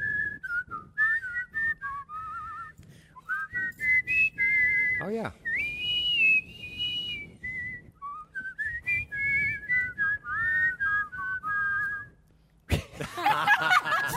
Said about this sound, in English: We tried to harmonize whistles once. Yes. But you can't look at each other because you laugh. And that doesn't work. We do harmonize. Yes. They're both great whistlers, and I'm just like, yay.